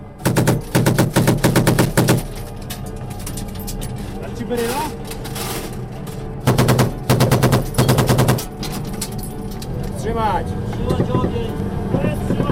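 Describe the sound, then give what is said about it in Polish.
Rapid bursts of machine gun fire during an attack on troops marching through the town of Mokur, coming from different parts of the town, in loud, dense volleys of sharp repeated cracks, separated by stretches of rumbling engine noise and shouted voices. “Z różnych części miasta dostawaliśmy ogień.”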